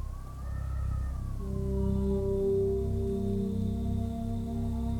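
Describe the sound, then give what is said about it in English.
Strong wind at a seaside cliff top roars in a steady, deep rumble, with sustained whistling and moaning tones riding above it. The gusting is loud, with no voices present. “The wind is up.”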